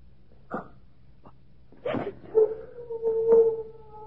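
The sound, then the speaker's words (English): A dog gives a few short, sharp yelps, then breaks into a long, wavering howl that holds steady for over a second. It is heard alone, with no talking. “It was only one of the dogs.”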